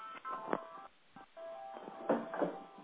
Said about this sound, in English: Sounds like there's a cell phone going on in the background. Yeah, I just had to turn it off.